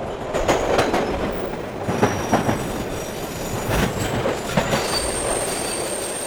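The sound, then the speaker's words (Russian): Railway cars of a train carrying a company of army recruits bound for Afghanistan roll steadily along the tracks, with rhythmic wheel clatter, periodic bumps and faint high-pitched wheel squeal over a constant rumbling drone. “Мы еще не знаем, а нас всех уже определили в Афган. Весь вагон, весь поезд, всю роту.”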